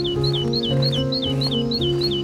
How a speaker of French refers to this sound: Et nos oiseaux? On vous entend. Mes anges comme il faut, avec sa petite scie. Ici, on a la mésange charbonnière.